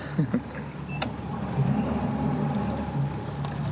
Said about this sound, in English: Dean pulls the boat through the undergrowth into a clearing in the forest